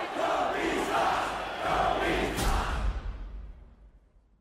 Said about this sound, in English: there was a commercial that Kobe did where he hit a game-winning shot, and the crowd was booing him, and he puts his hand up to his ear like this.